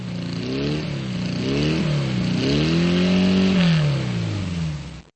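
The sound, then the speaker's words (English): A Porsche sports car engine revs up and down repeatedly, its pitch climbing and falling in loud sweeps with a throaty, harmonic roar, no voices present. “Most people would recognize a Porsche on the street, and some even the sound of a Porsche engine.”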